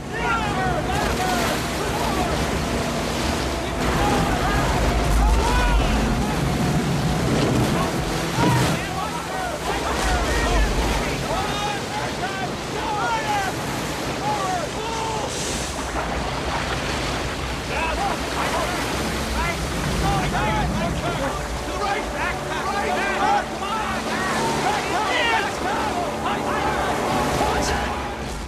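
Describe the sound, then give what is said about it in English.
Loud, continuous rushing water churns and roars, with sloshing surges and splashes as men paddle a raft free of rocks and down river bends through turbulent rapids between steep rock faces, wind buffeting throughout. “They paddle themselves free of the rocks and surge down further bends in the river.”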